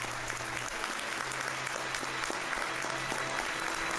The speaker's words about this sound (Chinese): 在这部长达2小时15分钟的影片结束后，导演史蒂夫·麦奎因走进会议厅，全场顿时响起了热烈的掌声。